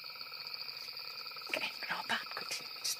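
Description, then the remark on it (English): A steady, high-pitched chorus of crickets fills the background, joined halfway through by a few rough, throaty frog croaks in short irregular bursts. “So that's one of the frogs. Yeah. Real croak. It's a genuine croak.”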